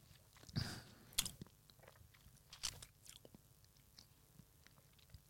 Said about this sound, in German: Nein, man nimmt natürlich einen schönen Schluck erstmal in den Mund, dann kann ich eh nicht mehr reden. Schlürfen.